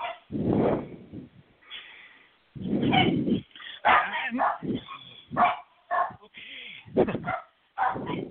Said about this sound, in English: Sorry, my dogs are yelling.